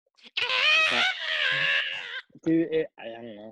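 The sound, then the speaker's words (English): A voice imitates the high, wailing scream from a film's main title theme song, a loud sustained cry lasting nearly two seconds, followed by a few shorter vocal bursts in the same strained, sung tone. “As soon as you like did that scream thing, I was like, oh, I know exactly what he's talking it's about.”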